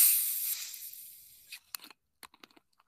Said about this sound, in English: I have orange in my hand. Okay. Opening the orange. Ooh, that one fizzed more.